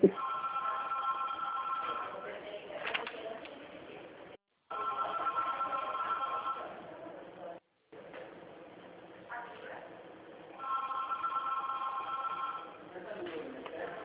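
telephone ringing

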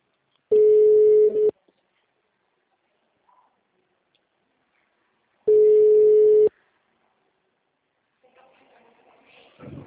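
telephone line tones

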